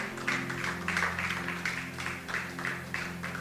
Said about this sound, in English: Can you put your hands together for Jesus, everyone?